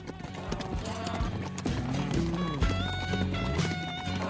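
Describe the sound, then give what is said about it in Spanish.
A horse's hooves clatter in a quick, steady galloping rhythm, fairly loud, as Bairoleto escapes on horseback to hide in the bush in November 1919, layered over a dense musical backdrop that continues throughout. “Ahí mismo se escapó a caballo y se escondió en el monte.”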